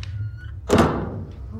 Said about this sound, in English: It's a long corridor. Yeah. Must be a door somewhere. There's a door somewhere here. Yeah. There it is.